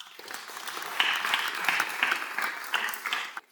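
A crowd claps steadily for a few seconds, a dense patter of many hands with brighter individual claps popping out, then it stops abruptly.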